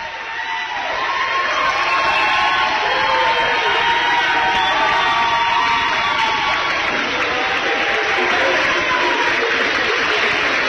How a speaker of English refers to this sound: Big round of applause for both the Bath County seniors.